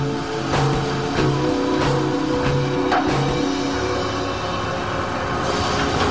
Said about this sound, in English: After 18 hours of baking in these ovens, the coal becomes coke, and the giant pusher machine goes into action. The doors on both sides of the oven are removed, so the coke can be pushed through into a special railroad car.